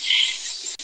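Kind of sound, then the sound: insect, crickets chirping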